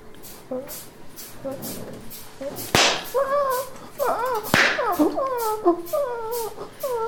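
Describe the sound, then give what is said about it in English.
Two sharp, loud slaps to the testicles crack out a couple of seconds apart, each a sudden smack, while a gagged man whimpers and moans in muffled rising and falling cries around them. “A sharp slap to your balls.”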